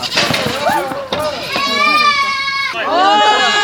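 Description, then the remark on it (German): Several young goats bleat loudly and insistently as schoolchildren try to catch them at the Lindenthal zoo in Cologne, Germany, their wavering, high-pitched cries overlapping and stretching out, with a lively scramble of children's voices mixed in. “Doch das Fangen ist gar nicht so einfach. Immer wieder versuchen die kleinen Ziegen,”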